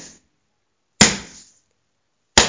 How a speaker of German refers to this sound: um die Zange noch ein letztes Mal wenn sie noch heiß war, mit dem Hammer zu bearbeiten.